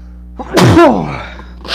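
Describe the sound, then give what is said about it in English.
A single loud sneeze with a sharp intake of breath before it and a bright, explosive burst, followed by a brief sniff. No one speaks. “Oh, I gotta sneeze.”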